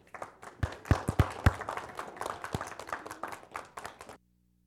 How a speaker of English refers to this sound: So I want us to applaud the women in our life that are mothers this morning. So if you all stand, if your mom, and everybody else gets to applaud them.